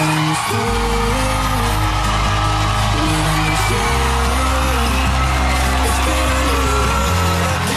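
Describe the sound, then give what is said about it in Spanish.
A studio audience, mostly fans, on the Antena 3 set of El Hormiguero cheers and screams excitedly as a Catalan guest arrives, loud and unbroken for several seconds, with whoops rising over steady, driving music underneath. “Així va ser la rebuda de la catalana al plató d'Antena 3, on la majoria de persones del públic eren fans i estaven, bueno, excitadíssims.”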